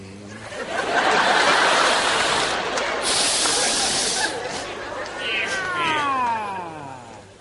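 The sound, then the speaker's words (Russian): Several voices mimic cats, a loud overlapping chorus of hissy, yowling meows that ends in a few long, sliding meow calls near the close. “Прекратите мяукать.”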